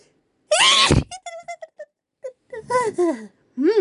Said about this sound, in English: I have... I have a sneeze coming on. I don't want to sneeze. So I'm going to fight the sneeze.